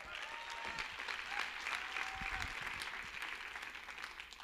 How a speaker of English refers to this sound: Don't clap too much. I only have 6 minutes, okay?